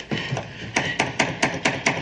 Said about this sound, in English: You broke it when you hit it with the axe.